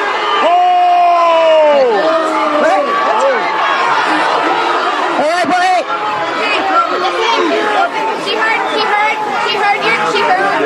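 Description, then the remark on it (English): A loud crowd boos and shouts throughout at police officers' black-striped badges honoring fallen officers, with long, wavering, falling vocal tones blending into a steady roar of many voices. “They're booing the support of fallen officers.”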